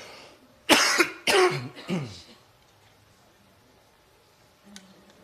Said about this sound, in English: Sorry, just on these spikes and valleys while I cough like a walrus.